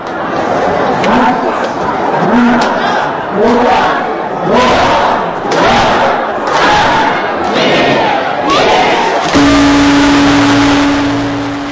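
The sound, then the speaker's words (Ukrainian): A huge crowd of visitors and residents in Tokyo, Japan, welcoming the new year 2013 after a countdown, cheers and shouts in loud, rhythmic bursts of many voices rising together, and near the end a steady, sustained tone sounds beneath the continuing roar. “Величезний натовп гостей і жителів столиці Японії Токіо зустрів новий 2013 рік.”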